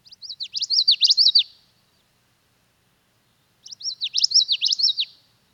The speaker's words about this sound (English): I was out walking in the Wabisa wetlands yesterday, and I heard a common yellowthroat. So we're going to play the common yellowthroat for me,